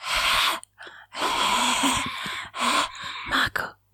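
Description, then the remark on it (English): Heavy, close-up breathing: a run of loud, airy inhales and exhales with short pauses between them, rasping right against the microphone with no talking. “Maybe I'll change to my ringtone or something and just have you like breathing.”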